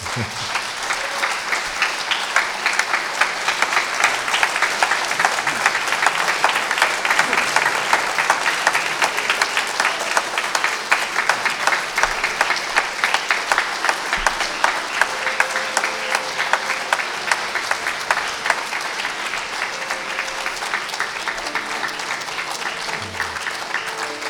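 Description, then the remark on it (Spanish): An audience claps steadily for about twenty-four seconds after a musical performance, a dense, even patter of many hands at a consistent loud level with no voices standing out. “Este aplauso fue breve.”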